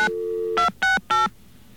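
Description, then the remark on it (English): A steady payphone dial tone cuts off, followed by three quick touch-tone beeps in an even rhythm, clear with faint background hiss. “Let's get another dial tone here.”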